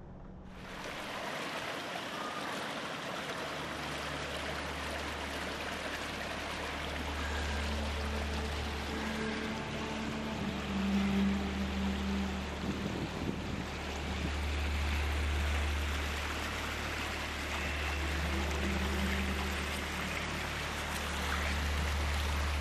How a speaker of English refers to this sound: This waterfall was indeed beautiful. Some of the clearest water you're ever going to see, you'll find down in the Ozarks.